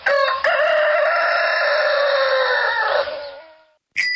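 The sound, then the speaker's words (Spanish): A rooster crows loudly as the station sound of Radioactiva radio, one long sustained cock-a-doodle-doo that holds steady for about three seconds before trailing off, followed by a brief new sound at the end. “En este radio se escucha El Gallo de Radioactiva.”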